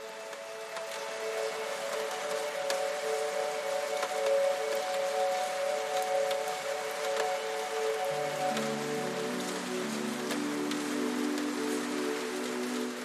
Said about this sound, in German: Du kannst förmlich spüren, wie der Regen die Straße hinunterfließt, als ob er all die Spannungen des Tages mit sich nehmen würde.